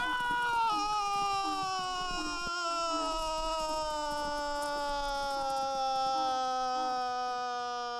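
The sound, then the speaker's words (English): A donkey brays loudly in one long, unbroken, nasal call that slowly slides downward in pitch for several seconds, with no other voices. “Yeah, donkey!”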